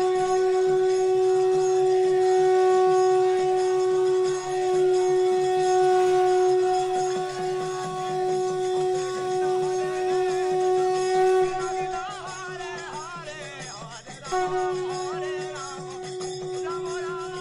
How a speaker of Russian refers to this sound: Как только он шагнул за дверь, какой-то преданный затрубил в раковину, и ее рев разнесся по всему залу.